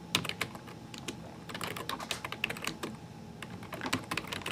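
Rapid, uneven clatter of computer keyboard typing, sharp clicky keystrokes in quick bursts with brief pauses, fairly quiet and steady throughout, with no voices; someone is typing a git config command to set a username.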